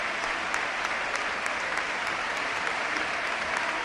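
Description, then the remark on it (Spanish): Steady applause from a large stadium crowd, a dense continuous patter of many hands clapping at an even loudness, with scattered sharper claps standing out, and no voices, as captain José Luis Morales leaves the pitch in his 300th match and is replaced by Gonzalo Melero. “Se retira entre aplausos el capitán, el comandante.”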